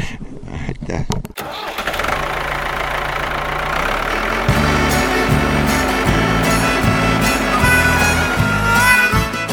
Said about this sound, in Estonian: aga kui on vaja põllul ikkagi tööd teha, siis sinu talus traktorid see päev ei seisa, nii et mürisevad ikka heinakaarel, nagu öeldakse.